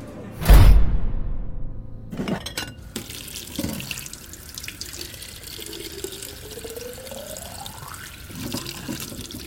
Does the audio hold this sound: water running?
yes